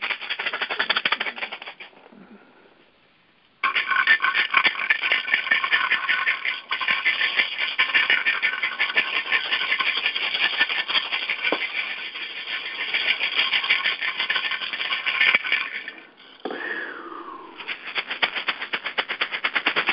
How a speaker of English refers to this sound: And although I'm rattling it around my own auric field, I'm going to invite you to imagine that your eyes are closed and I'm there, just sending this rattle and this frequency around you to knock off any energetic debris that might be there.